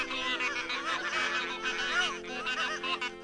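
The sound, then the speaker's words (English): A flock of geese honks together in a dense, overlapping chorus, the calls steady and fairly loud throughout with no pauses. “And soon all the geese were praying. One by one, and in duets, and in trios, and all together in a great chorus.”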